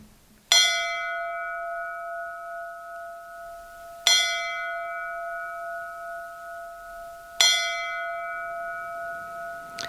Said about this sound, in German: Ich fand diesen Nachhall der Glocken immer mystisch. Ich weiß nicht, wie ich es anders beschreiben soll.